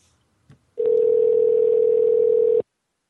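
A telephone call ringing out: a faint click, then one loud, steady single-pitched ring tone held for nearly two seconds before cutting off abruptly. No one speaks.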